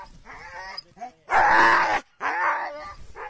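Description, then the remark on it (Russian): A sled dog vocalizes in a run of loud, drawn-out barks and yelps with whining, howl-like tones, several bursts over a few seconds with brief pauses between them. “И сегодня мы будем говорить об очень интересных вещах, о собаках, но не самых простых собаках, а о ездовых.”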